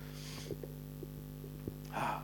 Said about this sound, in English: There's some good gasping going on there.